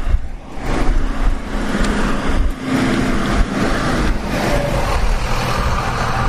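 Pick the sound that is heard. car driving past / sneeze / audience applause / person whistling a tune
car driving past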